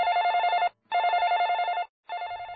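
A telephone rings in steady, even bursts, three rings separated by short pauses, clear with a bright electronic tone and no voices.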